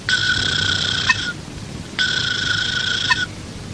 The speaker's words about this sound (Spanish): A cada rato tenía que hacer una siestita. A veces roncaba. Y cuando Picaflor roncaba...